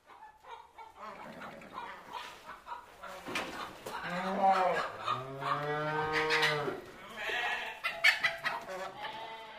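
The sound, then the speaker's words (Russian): A busy farmyard beneath a window: turkeys call as they walk behind a wet rooster that crows, amid other livestock noises, with loud, drawn-out calls overlapping over several seconds before tapering off. “Меж тем печально под окном индейки с криком выступали вослед за мокрым петухом.”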